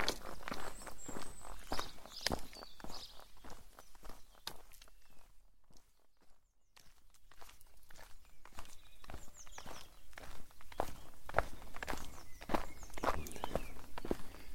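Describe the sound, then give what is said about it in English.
Steady footsteps crunch along a countryside trail skirting the edges of Dartmoor on a morning walk, in an even walking rhythm, with faint early-morning birdsong chirping over them; the steps pause briefly midway before resuming. “This is like walking through a British sound effects library.”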